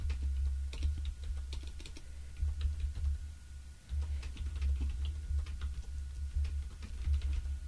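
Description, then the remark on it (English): Rapid, uneven clicking of computer keyboard keys in short bursts, fairly quiet, over a steady low hum with no talking. “Oh, gosh, I'm typing under pressure.”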